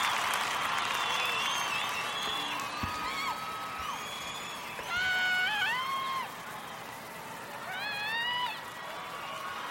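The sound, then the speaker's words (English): A concert crowd applauding steadily, a dense wash of clapping with scattered whistles and whoops rising and falling above it throughout. “What a crowd.”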